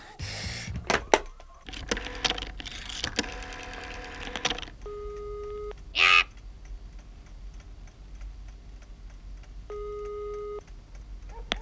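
A telephone handset is picked up with a clatter at a headquarters in the evening, followed by a run of rapid clicking as a number is dialed, then two steady ringing tones sound in the earpiece, moderately loud.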